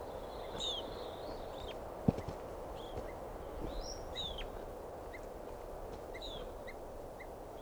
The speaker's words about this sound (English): There's a whole bunch of birds here.